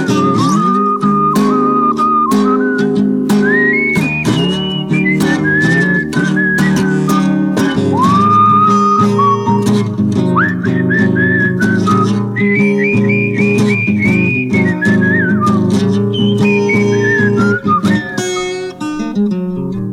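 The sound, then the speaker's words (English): Someone whistles a lively, sliding melody loudly over a full band accompaniment with steady rhythmic backing; the whistled tune rises and falls in long, bending phrases throughout. “Walking down the street, just whistle my blues away.”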